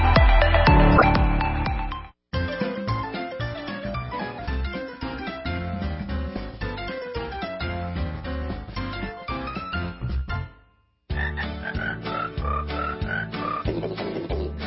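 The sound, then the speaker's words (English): Loud, continuous chirping, like crickets arranged into a festive holiday tune, with dense rhythmic chirps and a melody. Brief pauses around two and ten seconds, and no voices. “Where else you can hear crickets singing holiday stuff?”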